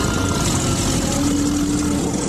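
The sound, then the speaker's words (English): A homemade T-Rex roar edited together from a baby elephant squeal, an alligator gurgling and a tiger snarl: a loud, rough, continuous growling blend with a steady low droning hum, lasting about two seconds without pause and with no talking. “Did you know that that T-Rex roar was made by combining the sounds of a baby elephant squeal, an alligator gurgling, and a tiger snarl?”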